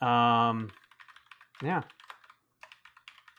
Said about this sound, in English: so clickety clacking away on his mechanical keyboard.